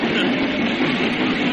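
train arriving

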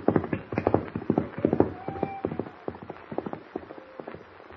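horse galloping hoofbeats

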